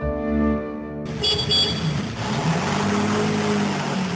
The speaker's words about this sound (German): Mit dem Auto.